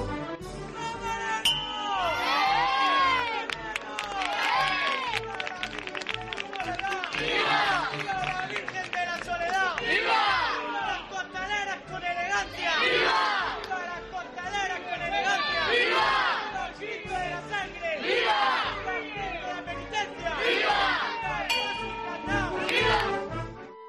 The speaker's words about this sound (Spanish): Siente el júbilo y la emoción de un momento. Escucha los sonidos de nuestra Semana Santa y revive la pasión.